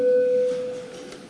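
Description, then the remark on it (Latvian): A single steady electronic signal tone, a parliamentary call bell before a vote on a bill in its second and final reading, sounds clearly for under a second and then cuts off, leaving a faint hum behind it. “Lūdzu zvanu.”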